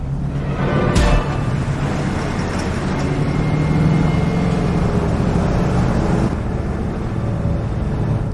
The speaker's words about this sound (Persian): همچی رو داره نور بالا میاد. اون اولی ماشینیه که تو این 15 مایل دیدیم.